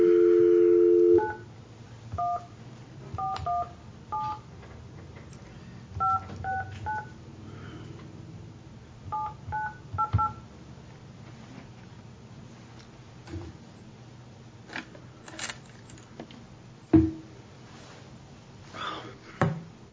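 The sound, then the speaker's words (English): A steady dial tone cuts off, then a run of about ten beeping touch-tone digits is dialed in quick bursts with short pauses between groups to call a man again, followed by faint clicks and quiet line noise. “Okay, do you want to go ahead and call that guy again?”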